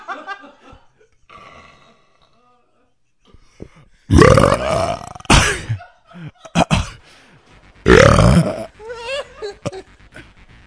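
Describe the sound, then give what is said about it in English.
Two loud, drawn-out burps ring out, each a long rumbling belch, with softer voiced sounds and a bit of chuckling scattered between them. “Burp night, good night.”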